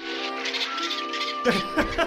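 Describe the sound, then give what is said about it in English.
A stock dolphin chatter sound effect plays alone, fairly loud: a squeaky, buzzing run of whistle-like tones, then a few harsher clicking chirps near the end. “That is the same stock sound effect they used on the show Flipper.”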